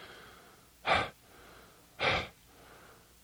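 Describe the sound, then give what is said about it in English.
A voice imitates the huffing breaths of a man hurrying home: two strong, breathy puffs about a second apart, each a broad rush of air, with a third starting at the very end and quiet between. “Was the sound that he huffed with each puff.”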